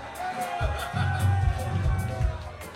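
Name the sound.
crowd screaming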